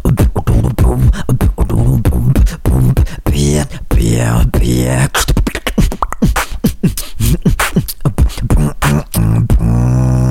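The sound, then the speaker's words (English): A single performer beatboxes, layering a buzzing, trilled 'thrill bass' tone with rapid percussive clicks and snaps in a steady driving rhythm, loud and continuous throughout. “The thrill bass is a super, super cool sound.”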